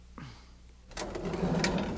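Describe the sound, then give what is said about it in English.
A drawer marked T is pulled open with a brief squeak followed by a long, rumbling slide of wood, growing louder toward the end, with no voices. “So open the drawer marked T.”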